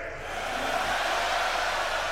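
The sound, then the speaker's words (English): A large festival crowd in Germany screams and roars in one continuous, dense wall of sound that stays loud and steady throughout, with no individual voices standing out. “Alright, so let's hear screaming so the gods themselves can hear you, okay?”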